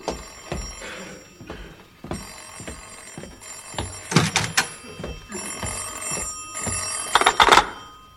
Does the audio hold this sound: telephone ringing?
yes